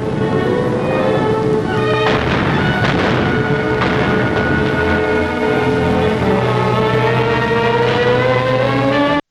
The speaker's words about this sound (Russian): Давайте посмотрим вот этот трогательный эпизод из черно-белой хроники. Глухое эхо выстрелов наполнило ущелье гор, нарушив их вековое молчание.